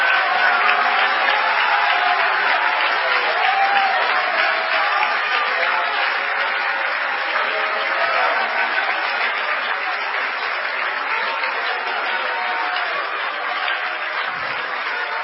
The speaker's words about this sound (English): Y'all hearing me tonight? Give the Lord a hand clap of praise, would you?